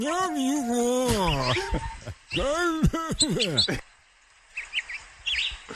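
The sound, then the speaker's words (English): Short, high chirps and twitters of a male Guyanese finch come through in scattered bursts, partly under loud, sliding human vocal sounds, then continue more clearly but softly once the voice stops. “If you really listen closely, you can hear the male. The male Guyanese finch.”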